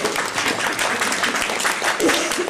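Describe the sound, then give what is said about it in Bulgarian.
A crowd at a Christmas event in the concert hall studio of Radio Varna claps steadily throughout, a dense, even patter of many hands at a constant volume, with some voices mixed in underneath. “Благодаря ви за аплодисментите.”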